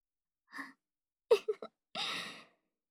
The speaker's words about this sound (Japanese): あれ？なんか息切れてない？もしかして走ってきちゃった？